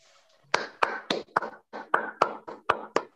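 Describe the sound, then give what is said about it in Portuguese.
Brief applause of about ten sharp, distinct claps at a steady, fairly quick rhythm, sounding like only a few hands. Moderately loud, with no talking over it. “Aplausos, né?”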